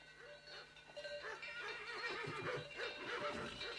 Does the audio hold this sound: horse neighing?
yes